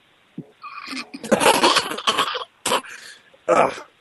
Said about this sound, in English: I'm coughing because I deal with diseases all day long.